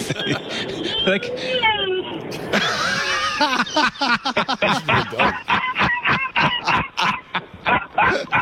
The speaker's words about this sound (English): I've got a little bulldog named EJ. He's named after the great man. He plays up like the great man. He's barking in the car.